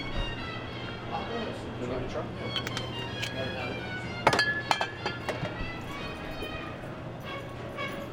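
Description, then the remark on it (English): A chilled cocktail glass clinks a few times in a short cluster as it is picked up and handled while making a whiskey cocktail, over a steady low background hum. “And I'm going to set that aside and grab the chilled glass.”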